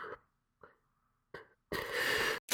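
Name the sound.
sneeze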